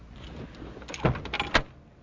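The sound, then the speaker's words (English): Someone tugs at a locked car door handle: two or three short, dull mechanical clunks, a quick rattle without the door opening, against a quiet background. “Your door's locked.”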